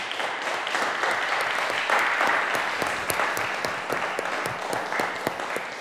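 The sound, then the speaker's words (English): A crowd applauds steadily for three performers at the end of a session, many hands clapping in a dense, continuous wash with sharp individual claps popping through, holding at a fairly even loudness throughout. “All right, let's have a final round of applause for our three performers today.”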